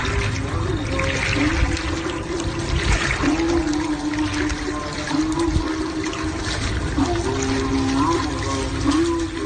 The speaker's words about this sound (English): They hear the river, obviously, because they're right next to the water. So avoid the or try to disregard the slosher.